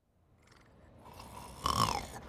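A sleeping boy snores, heard over a call, in a slow breath that swells from a soft rasp into a louder, throaty snort with a whistling tone near its peak, then eases off.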